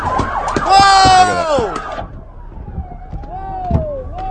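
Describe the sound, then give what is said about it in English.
A police car siren wails loudly for about two seconds as the car drives fast through a crowd, then drops to a fainter, rising sweep over a murmur of crowd noise. “And then here comes a cop car.”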